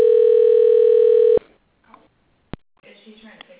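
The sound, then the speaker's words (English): A loud, steady desk phone dial tone hums for over a second, then cuts off with a sharp click; after a short pause another click sounds and a recorded voicemail greeting from a doctor's office begins speaking. “So I'm calling off my desk phone.”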